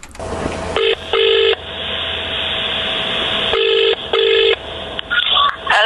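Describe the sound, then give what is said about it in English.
Telephone keypad dialing tones: several short, loud beeps in quick pairs, separated by a steady hissy line tone, with a final cluster of quicker beeps near the end. “without any messing about, mate, just listen to this phone call.”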